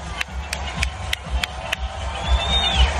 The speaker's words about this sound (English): Everyone's cheering for the song